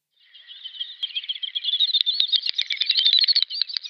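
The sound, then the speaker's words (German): A snipe-like wading bird's clicking song, not made with the tail feathers as in the common snipe: a fast, quickening train of dry, high-pitched clicks and twitters that swells louder over a few seconds, with no voices. “Und da habe ich auch mal den Gesang mitgebracht, weil der ziemlich cool ist.”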